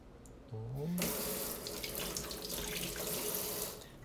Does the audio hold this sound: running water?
yes